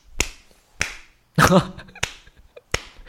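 Four sharp, crisp hand claps spaced unevenly over a few seconds, with a brief voiced vocal sound like a short laugh or exclamation breaking in between the second and third claps.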